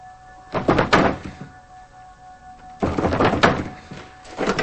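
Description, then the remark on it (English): A man yanks a locked bedroom door by its knob, rattling and thudding it against the frame in two or three short, forceful bursts. It is fairly loud, with no voices. “He pulls on the doorknob.”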